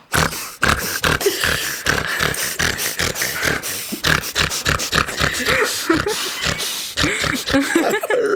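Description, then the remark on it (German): A person imitates the grunting laugh of an acquaintance: a rapid, rhythmic series of loud, pig-like snorts and grunts running continuously for several seconds, with no words spoken. “Ich finde es auch sehr lustig, wenn irgendwer beim Lachen irgendwie so grunzt.”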